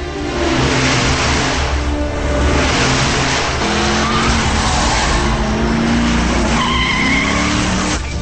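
Loud, continuous roar of fast-moving cars speeding through a tunnel, tires squealing and skidding, engines revving as vehicles swerve from lane to lane past army trucks, echoing in the tunnel; no voices.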